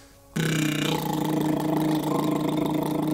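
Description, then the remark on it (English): A voiced trill of tongue and lips at the same time, done as a voice exercise, starts abruptly and holds steady, a buzzing, fluttering hum on a sustained pitch that sounds a bit like an idling engine, fairly loud. “Let's do some more tongue and lip trills at the same time with voice.”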